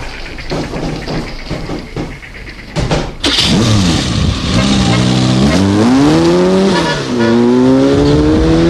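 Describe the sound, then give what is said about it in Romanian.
A car engine chugs and idles unevenly, then catches with a burst and revs loudly, its pitch climbing and shifting through gears as the car pulls away, in the radio play Gorila sau Ultima misiune. No one speaks. “La mașină, Boleș!”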